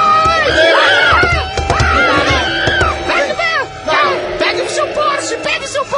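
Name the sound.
horses neighing and galloping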